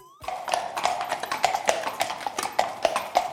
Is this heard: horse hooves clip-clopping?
yes